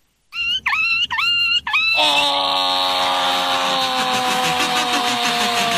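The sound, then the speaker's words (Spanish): A voice imitates a run-over puppy at an animal imitation festival: four quick, high yelping whimpers, then one long, loud, quavering wail that holds steady to the end, with no other sounds. “Parece que era un perrito atropellado, ¿no?”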